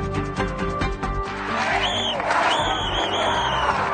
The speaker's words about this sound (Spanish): Al grito de sin amnistía y enarbolando pancartas con dictadura nunca más y Congreso, vergüenza nacional, las multitudes se tomaron las calles de una treintena de ciudades.